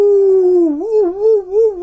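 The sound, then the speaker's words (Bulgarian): A little owl calls once in a drawn-out, wavering tone that rises and dips in pitch for about two seconds. It is clear, with no voices. “това са същите онези кукумявки, които едно време отишли на сватба”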